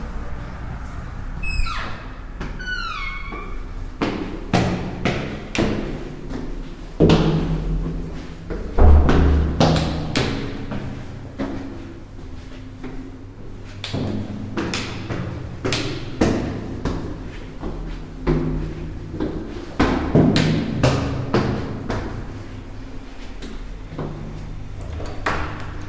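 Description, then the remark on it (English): A broken door handle rattles and clicks repeatedly in quick, irregular bursts, with metallic clacks and dull thuds against the door, fairly loud throughout. “Broken door handle.”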